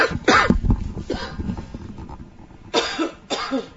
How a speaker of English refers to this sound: let's go to … while she's coughing up a lung